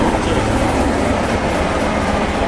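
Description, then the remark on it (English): A heritage steam train of the Spa Valley Railway at Tunbridge Wells runs along the track, a loud, steady rumble with faint rhythmic clatter throughout and no voices. “So that's Tunbridge Wells, the Spa Railway. Spa Valley Railway, that's right.”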